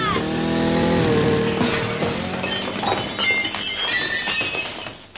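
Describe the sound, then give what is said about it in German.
A loud buzzing, motor-like roar rises and then gives way to a crash through a glass window pane, with bright shards tinkling and clattering for several seconds before fading. “Voll durch die Fensterscheibe.”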